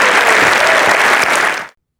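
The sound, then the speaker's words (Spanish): An audience at Iglesia La Roca y Alcance Mundial breaks into steady, dense applause to the Lord, a loud wash of many hands clapping that holds for over a second and a half before cutting off abruptly. “Si Dios habló, da un aplauso al Señor, que Él se lo merece.”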